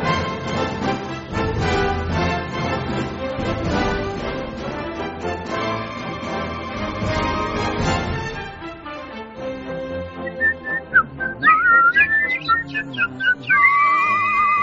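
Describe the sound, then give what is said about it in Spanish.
Someone whistles a lively melody near the end, clear pure tones rising and falling in quick phrases, after a stretch of full, busy instrumental music. “¡Ya me apunto yo hasta el silbar!”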